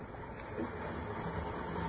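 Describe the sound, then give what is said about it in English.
A steady, muffled rumble of a railway platform at Newcastle Station with a train, a few minutes before train time as two men walk along the platform. A continuous mid-level wash of mechanical noise and hubbub with no distinct individual events. “But there was no stain on it that morning of May the 20th, 1930, when the two men, one wearing this particular shoe, walked along the platform at Newcastle Station. It was a few minutes before train time as they made their way along the platform.”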